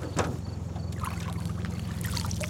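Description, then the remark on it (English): Splashing and dripping water as a hand reaches down and pulls hydrilla, an aquatic weed, up out of a river, in short bursts over the steady low hum of an idling boat motor. “I'm just going to reach down and grab some here.”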